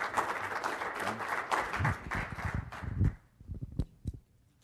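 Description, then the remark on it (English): A crowd applauds warmly for a panel with dense, steady clapping that thins into a few scattered claps near the end. “Let's give our panel a big round of applause.”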